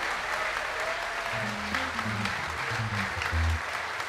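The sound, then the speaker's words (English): An audience claps steadily throughout for musician Joey Barron at an orchestra concert, a dense, sustained wash of applause, with faint low tones and murmurs underneath. “But let's have a round of applause one more time for Mr.”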